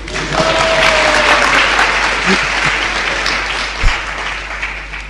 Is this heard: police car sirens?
no